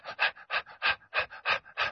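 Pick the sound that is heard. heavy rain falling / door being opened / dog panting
dog panting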